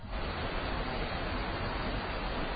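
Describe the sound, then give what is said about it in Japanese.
Steady rain drips from the eaves onto stones in a dense, continuous patter, an even hissing wash that holds the same moderate loudness throughout with no voices. “雨だれ石に落ちる雨音がピシャピシャと再び聞こえ出す。”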